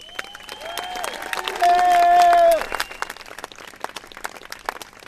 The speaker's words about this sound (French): Et encore un tonnerre d'applaudissements pour ceux qui sont à l'origine de la réussite de cette semaine merveilleuse pour la gestion de l'eau.